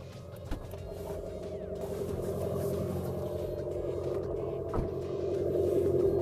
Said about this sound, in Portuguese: Sim, um carro elétrico com ruído de motor a combustão. E é claro que como a gente não tem escapamento aqui, esse ruído é artificial. E o segredo está aqui embaixo.